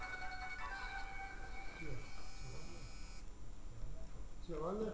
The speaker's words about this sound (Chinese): 对不起啊，我忘了关手机。